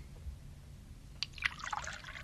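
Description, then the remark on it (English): Water trickles and splashes into a glass for a drink, about a second, a quiet burst of bright, gurgling drips after a near-silent start, with no voices. “Here, have a drink of water.”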